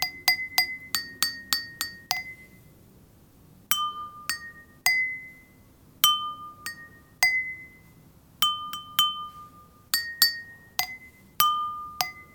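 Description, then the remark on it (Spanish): Glasses holding different amounts of water are tapped in quick, ringing clinks: a rapid run of about seven bright strikes, then spaced groups whose pitch shifts between higher and lower notes, each tone fading briefly. No voices. “Uy, cuánta agua que cae.”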